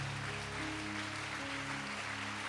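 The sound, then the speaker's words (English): A church audience claps their hands unto the Lord during a service, a dense, even wash of many hands, with low sustained keyboard or organ notes holding underneath. “If you believe that, would you clap your hands unto the Lord?”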